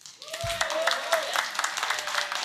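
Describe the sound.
An audience applauds to show they like a proposed power set, with dense, steady clapping filling the whole stretch and a faint whistle-like tone or voice rising over the start.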